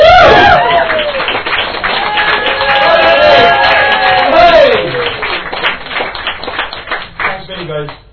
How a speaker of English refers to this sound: Thank you. Go on, give them a proper cheer, come on!